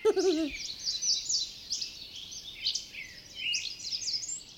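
Birds chirp and twitter continuously in high, busy bursts, heard outdoors through an open window, with a brief low hooting call at the very start and no talking.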